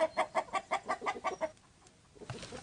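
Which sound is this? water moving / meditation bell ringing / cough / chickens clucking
chickens clucking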